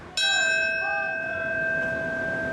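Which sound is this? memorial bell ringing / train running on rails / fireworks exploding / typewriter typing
memorial bell ringing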